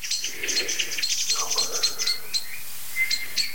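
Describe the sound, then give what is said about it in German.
Agitated alarm calls from two kinds of birds overlap: a dense run of sharp, high chirps and ticks, joined by a lower, harsher call partway through. There is no talking. “Das Ganze wird heftiger, weil nämlich eine zweite Vogelart dazu kommt.”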